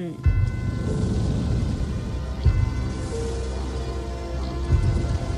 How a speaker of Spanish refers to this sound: Y de pronto se produjo una tormenta.